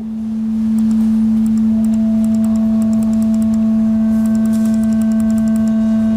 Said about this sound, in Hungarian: Nézzük meg ugyanezt a háromszögjelre. Itt is az alapharmonikus van csak.